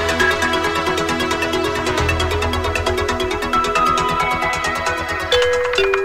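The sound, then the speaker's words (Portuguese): A bright bell chime rings out in a steady, rhythmic jingle, with sustained ringing tones layered over a pulsing beat, loud and continuous for about six seconds, with no voices. It is a cue on the CBN Amazônia radio programme CBN Jornal da Manhã, signalling a link to a reporter. “Campainha tocou, é momento de fazermos conexão com a nossa repórter”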